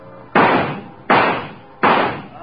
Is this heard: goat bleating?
no